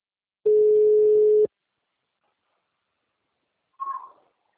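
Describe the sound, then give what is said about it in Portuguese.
A single loud, steady telephone dial tone, heard while someone places a phone call, lasts about a second, then silence and a brief faint higher-pitched chirp like a small meow near the end. “Não, telefone. Não, tô ligando.”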